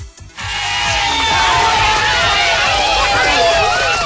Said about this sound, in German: Ah, nee, ich hab Applaus hier. Haha. Es geht doch alles. Applaus.